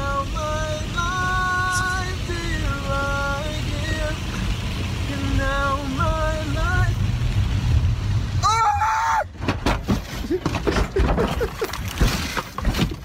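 Over a steady road rumble, a voice screams in sharp, repeated cries, then a crash breaks out into a burst of heavy thumps and banging impacts as a car rolls over about three times, an empty Gatorade bottle in the back seat hitting the ceiling each time the car spins.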